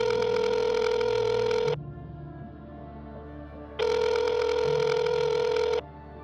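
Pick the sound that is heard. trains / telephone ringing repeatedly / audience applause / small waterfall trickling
telephone ringing repeatedly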